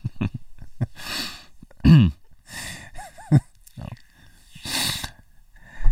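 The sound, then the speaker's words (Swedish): A sitting person's heavy panting with snorting, long breathy huffs mixed with short grunts and groaning strains, repeating irregularly over several seconds with no speech. “Ja, men du sitter ju bara och fröstar och flåsar.”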